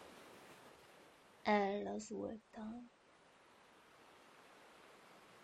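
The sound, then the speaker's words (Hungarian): A steady, soft wash of ocean waves on a beach fills the background throughout, with a brief spoken phrase in the middle before the gentle roar continues alone. “A hullámok hangja megnyugtat.”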